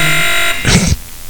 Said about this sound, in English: I like the other buzzer better.